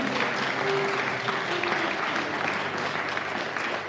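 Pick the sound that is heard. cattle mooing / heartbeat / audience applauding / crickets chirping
audience applauding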